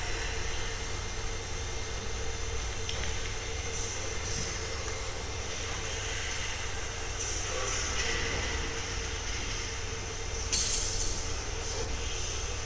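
A Märklin model train runs steadily along its rails beneath a colorful board in an art installation at Kunsthalle Göppingen, giving a continuous whirring rumble that stays even, with a brief brighter metallic squeal toward the end.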